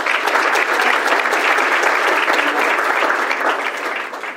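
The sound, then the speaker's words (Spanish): Loud, sustained applause from an audience in Guadalajara welcoming Dr. Francisco Preciado Figueroa, director of the Hospital Civil de Guadalajara Dr. Juan I. Menchaca, a dense wash of many hands clapping at once that holds steady throughout and eases slightly toward the end, with no voices standing out. “Recibimos también con un fuerte aplauso al doctor Francisco Preciado Figueroa, director del Hospital Civil de Guadalajara, doctor Juan y Menchaca.”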